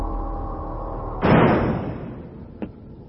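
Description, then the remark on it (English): A heavy door is resealed shut with a loud, booming seal that rumbles away, followed a second later by a small sharp click, all over a steady low mechanical hum. “You may reseal the door.”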